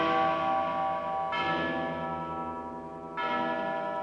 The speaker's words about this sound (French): Cloche de Notre-Dame à Paris, qui sonnait les glaces et les carillons, qui sonnait la joie et la peine. Cloche de Notre-Dame à Paris.